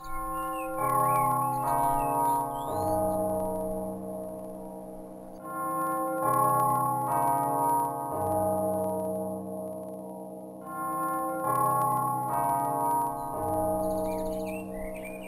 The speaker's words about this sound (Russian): Но в это время зазвонил колокол.